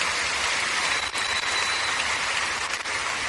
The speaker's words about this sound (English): Give the Lord a big clap offering, everybody.